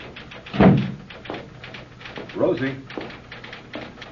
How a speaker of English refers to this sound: When the door opens, and Nat comes in.